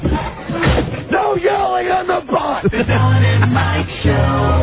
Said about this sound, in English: Yelling on the bus!